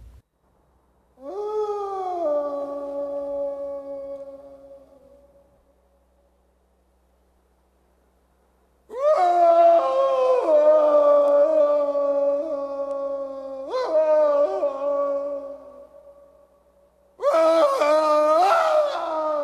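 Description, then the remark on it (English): Uncle Fester howls into the night air on the roof of the Adams family mansion: a long, wavering howl rises and fades, followed after a pause by louder, sustained howls that swell and overlap in several drawn-out bursts, with no talking. “On the roof of the Adams family mansion, bald white-faced Uncle Fester howls into the night air.”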